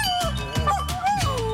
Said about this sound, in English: What's going on here is this dog is kind of provoking itself. He is.